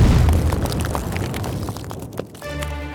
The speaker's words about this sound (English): The explosion ripped through the House of Lords like a shockwave. King James' skeleton shattered almost instantly. Even the 7-foot walls of concrete weren't a match for the blast. The billow of smoke shot high into the sky.